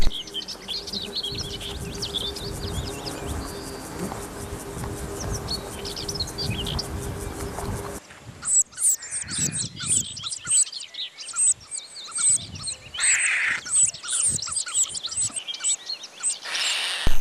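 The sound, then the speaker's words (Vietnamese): Birds chirp and tweet against a dense, buzzing outdoor background, then sharper, high-pitched peeps of chicks come in rapid, irregular bursts as a mother bird catches insects to feed them, with faint rustling between calls. “Chim mẹ bắt côn trùng để nuôi chim con.”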